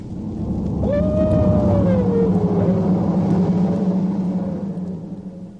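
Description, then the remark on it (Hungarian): A large dog lets out one long, mournful howl that slides slowly downward in pitch over a heavy, low rumbling background. No one speaks. “A kutya! Elkéstünk!”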